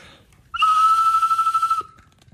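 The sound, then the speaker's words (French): A small collectible whistle with a bird figure that moves when it is blown is blown once, loud: a steady, bright tone held for just over a second, fluttering slightly before it cuts off. “Puis quand vous sifflez, l'oiseau, il bouge.”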